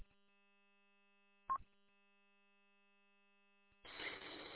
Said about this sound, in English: I just heard funny beeps and boops in the background, and I thought maybe you had the rig on. So, but maybe either I was hearing things or it's something else in the background.